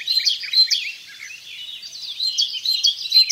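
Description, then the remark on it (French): A great tit sings alone, repeating bright, high-pitched chirping notes in a steady rhythm, clear, with no voices present. “C'est celui de la mésange charbonnière.”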